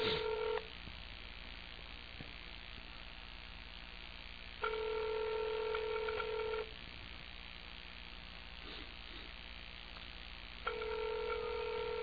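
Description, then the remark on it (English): A telephone ringback tone purrs in steady, evenly spaced bursts, about two seconds on with long quiet gaps between, heard over the line with a faint background hiss and no talking, as a call is placed to a man's phone. “So let me just call him on his mobile phone here.”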